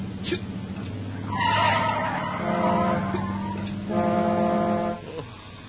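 A car brakes hard and swerves to avoid an oncoming bus, the driver hitting the brake and turning the steering wheel, with loud, sustained squealing tones rising and falling in two long stretches over a low engine rumble before cutting off.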